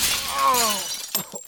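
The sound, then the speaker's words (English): A window pane shatters with a loud, ringing crash, followed by a few sharp tinkles of falling shards. No voices. “Another broken window.”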